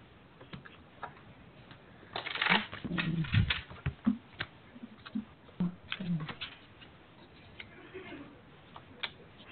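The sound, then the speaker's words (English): A deck of cards being shuffled, with a quick riffling burst followed by a series of soft taps and clicks as the deck is handled and squared up, no one speaking. “Let's shuffle.”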